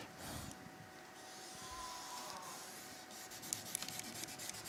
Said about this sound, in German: Ich versuche es noch einmal aufzuzeichnen. Ich hoffe, ich bringe es besser hin mit dem Stift. Das muss ich dann noch ein bisschen üben.